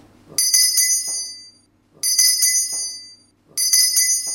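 A ceremonial bell is struck three times to open the Fuchsen-Kreuzkneipe of the women's student association Nausikaa zu Heidelberg and ADV Olympia Tübingen, at steady, evenly spaced intervals, each bright metallic ring sounding loud before decaying into a brief silence. No voices are heard.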